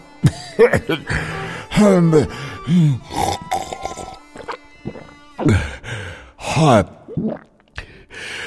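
Someone gasps and pants, catching their breath after taking plum seeds soaked in wine as a medieval remedy, in a series of heavy, breathy sighs and strained groaning vocal sounds that come in uneven bursts with short pauses.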